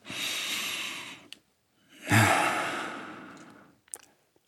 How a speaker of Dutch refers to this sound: Ik zal uw longen even onderzoeken. Adem eens diep in en uit.